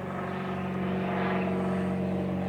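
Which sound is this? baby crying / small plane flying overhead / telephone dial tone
small plane flying overhead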